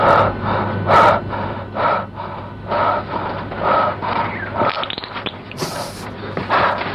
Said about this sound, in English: That guy breathing, yeah, he's the shit slurper.